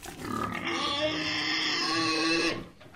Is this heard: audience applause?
no